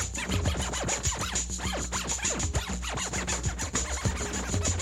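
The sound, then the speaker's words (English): Digital scratching of a sample dragged onto a music program's scratch window and scratched back and forth with mouse clicks: rapid scratching with quick rising and falling pitch sweeps repeating in an uneven rhythm over a steady low hum, fairly loud and with no voices. “Digital scratching is included, so any sample can be dragged onto the scratch window, and then using the mouse clicking, you can scratch back and forth through it.”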